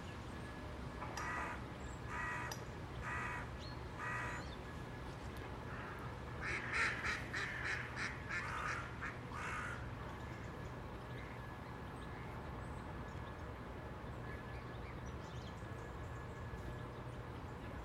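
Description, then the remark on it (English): Swans and other waterbirds call repeatedly on the water in sunshine: a series of nasal honks and quacks in short bursts over a steady outdoor background, with a louder cluster midway, then fading to ambient murmur. “Well, graceful, aren't they, swans? And so they're trying to attack you and nip your backside with the beaks.”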